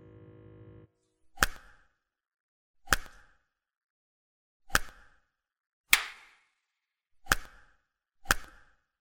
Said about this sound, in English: Well, I love how your body responds to these pussy slaps.